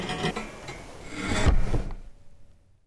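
Fabric rubs and rasps against itself in a steady, scratchy swish, swelling into a dull, low thud as a recliner swings open, then the sound fades to quiet.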